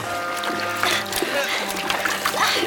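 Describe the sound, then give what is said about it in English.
Water sloshes and splashes in repeated bursts as it is scooped and tossed while bailing out a sinking rowboat, over a steady low hum, with faint voices murmuring in the background. “Mary, you and Doris, start bailing.”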